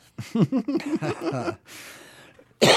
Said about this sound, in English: there's my cough for the day.